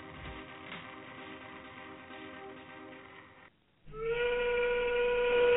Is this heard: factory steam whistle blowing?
yes